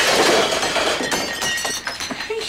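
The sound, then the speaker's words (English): A flying cup shatters with a loud, bright crash, followed by a scatter of sharp, high tinkling shards clattering and settling over a couple of seconds. “Lars ducks under a flying cup.”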